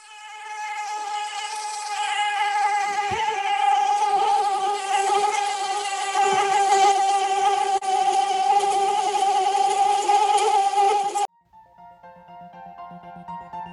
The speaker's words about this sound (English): Mosquitoes.